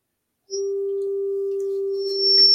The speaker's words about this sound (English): Got the test tone there.